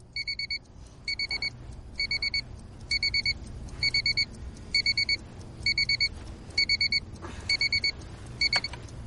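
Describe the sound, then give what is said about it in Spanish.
An alarm clock rings in repeated bursts of rapid electronic beeps, about once per second, loud, over a low steady background hum with no one talking, until someone switches it off. “Alguien apaga el despertador.”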